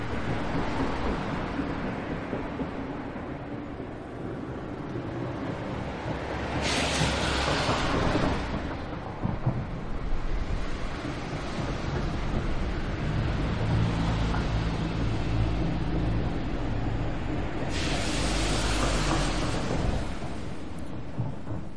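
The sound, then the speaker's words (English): A sound-effect recording of steady rain falling in a dense, continuous hiss over a low rumble, swelling twice into brief, brighter downpours before settling back. No one speaks. “Okay, if you're from some part of the country or the world where it actually rains, that's probably a fairly common sound to you.”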